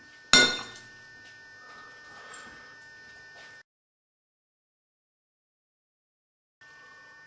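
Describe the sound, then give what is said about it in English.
A single sharp clink of a Pyrex glass dish holding a little soup rings out near the start and fades over a couple of seconds, followed by a stretch of silence and then faint background hiss. “Just a little bit of soup sitting in a Pyrex dish, ready?”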